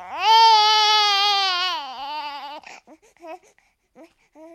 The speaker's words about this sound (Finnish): Vauvathan tuppaavat itkemään aika usein ja aina ei voi tietää, mistä tämä johtuu.